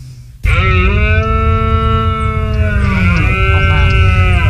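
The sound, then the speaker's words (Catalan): A red deer stag bellows during the rut, the mating call males make, usually around mid-September: a deep, drawn-out bellow with strong harmonics starts abruptly and sustains for about four seconds, sliding slightly in pitch, loud and roaring over a low rumbling background. “No, doncs és un cèrvol fent la brama, que és, passa normalment sobre mitjans de setembre i és quan s'aparellen els cèrvols.”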